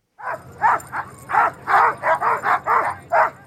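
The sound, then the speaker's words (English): A chorus of hundreds of sled dogs barking and yipping excitedly in rapid, overlapping bursts at the start of the Iditarod Trail sled dog race in Fairbanks, Alaska, loud, with no talking. “The Iditarod Trail sled dog race started last Monday with hundreds of barking sled dogs and mushers high-fiving fans as they hit the trail.”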